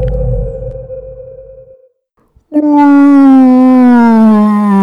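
A low rumbling tone fades into a brief silence, then a loud, sustained moaning call with rich harmonics slowly glides downward, like a whale's song rising strong.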